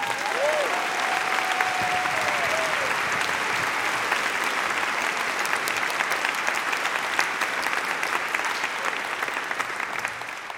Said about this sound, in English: A big round of applause for your final storyteller, Suki Kim.